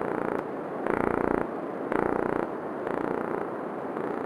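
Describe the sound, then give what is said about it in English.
Gulf corvina fish mating call: a dense, rapid pulsing drone like a deep purr, swelling into louder bursts about once a second in a steady alternating rhythm, with no voices. “And indeed, these fish have a beautiful, alluring, sexy, and sensual call. And I'm going to play it for you.”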